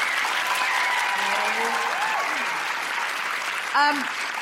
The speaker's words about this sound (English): Thank you, Sue. Big round of applause for Sue.